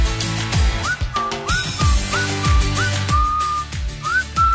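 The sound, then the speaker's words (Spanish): Someone whistles a bright, sliding melody, phrases rising with little upward swoops, over a thumping backing track with a steady beat. No voices. “Que sí, que te la silbas igual que yo. Y entre silbido y silbido”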